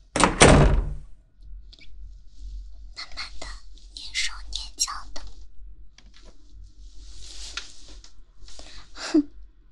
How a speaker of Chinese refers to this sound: 敲个门。不行，不能敲门。敲门的话，就没有惊喜了。我要给他一个惊喜。直接开门进去。